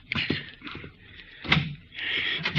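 A door is opened, with a rattling latch, a scraping swing and a solid knock partway through, followed by shuffling movement.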